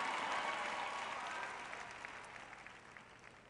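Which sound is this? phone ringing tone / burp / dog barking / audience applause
audience applause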